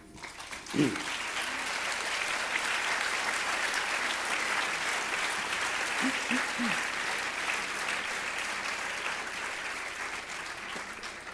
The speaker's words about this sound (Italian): È una bellissima risposta, come è evidente anche dall'applauso che avete fatto, e credo che abbia toccato parecchi